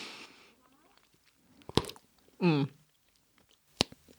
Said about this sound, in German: Aber jetzt ist die Frage, ist der geeignet, um Kugeln zu machen? Mhm. Nee, wie sagt man, Blas? Wir machen jetzt mal Kaugummi-Kugeln. Versuchen wir mal.